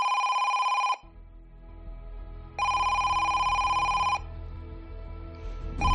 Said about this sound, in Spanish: Son las 9:02, es sábado, 4 de febrero, año 2017. El teléfono de la Cruz Roja suena y una persona anónima está al otro lado.